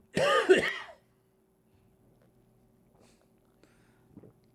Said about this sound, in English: I do have to cough.